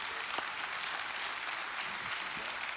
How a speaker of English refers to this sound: Now, today, we want you to clap it up. Come on, come on, we clap it up.